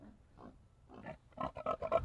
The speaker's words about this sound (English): I'm sorry, we just got new sound effects, so I'm a little heavy on that. We used to just have those six sound effects. Did you do the farm animals? Yeah, we have pig snorting.